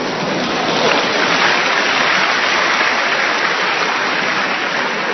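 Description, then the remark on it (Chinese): Sustained audience applause for a traditional Chinese art performance, a dense, steady wash of many hands clapping at an even loudness throughout, with no speech or other sounds standing out. “大家都鼓掌， 说明大伙喜欢咱们传统艺术。”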